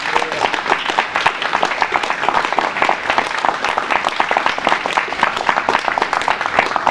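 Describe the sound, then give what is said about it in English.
A crowd applauds steadily for several seconds to welcome Rupert Matthews, who is about to speak on the Better Off Out campaign. It is a dense, continuous patter of many hands clapping at an even loudness, with no voices rising above it. “So let's all give him a big round of applause.”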